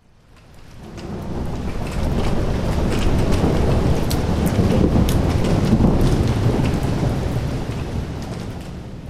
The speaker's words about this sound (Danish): Det har regnet hele natten i Sulaymaniyah.